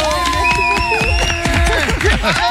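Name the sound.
festival audience applauding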